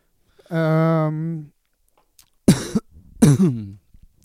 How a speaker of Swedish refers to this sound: Det var oproffsigt att hosta rakt in. Men det är också ganska bra punkt sån här, för punktmarkera vart man kan klippa någonstans. Om man ser det bra på den här på vågen, ljudspåret liksom.